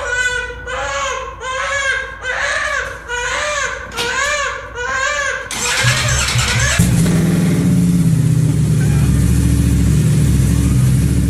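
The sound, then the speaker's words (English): A baby wails in repeated rhythmic bursts for several seconds, then a father's motorcycle engine, in a garage with the door open, roars to life and revs to stop the baby crying, drowning out the crying with a steady, rumbling growl. “But this dad just, keep in mind, he kept the garage door open for ventilation, just revved his motorcycle and the kid shut up.”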